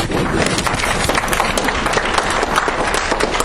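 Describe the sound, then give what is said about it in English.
An audience at a library presentation claps steadily to welcome an author, a dense, even wash of many hands with no pauses, holding at a fairly loud level for a few seconds. “Hey, the Chinese custom, they also clap themselves.”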